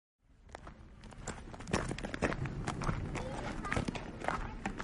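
High heels crunch steadily down a gravelly path, each step a sharp, gritty click in a quick walking rhythm, over a low rumbling background that builds after the first second.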